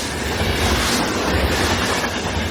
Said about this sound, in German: Vor ein paar Wochen begann der Tag bei vielen mit einem Starten der Autozündung. Einem einfahrenden Zug.